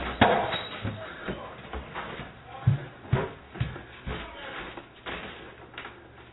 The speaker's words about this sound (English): There's the big mistake. She just opened the door for the police. She should have continued the conversation at the window.